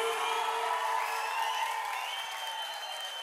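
An audience applauds steadily with a bit of cheering for the performer's elderly parents, who have been called up on stage. A dense clapping wash holds at an even level for about three seconds over sustained musical tones.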